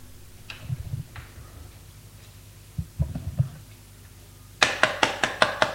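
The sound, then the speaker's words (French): A few soft, muffled thumps, then a loud burst of about seven quick, evenly spaced raps on a door in a steady rhythm, with no voices. “On a frappé à la porte.”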